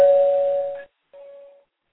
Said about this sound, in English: So let's go to the doorbell. Who's at the door?